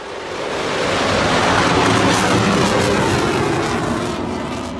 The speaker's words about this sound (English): For the first time, at about 8:20 Friday morning, people near the Burlington International Airport heard the sound of an F-35 airplane taking off. Actually, there were four of them.